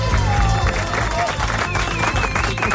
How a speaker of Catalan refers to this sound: No, és que estan aplaudint, no els vull interrompre.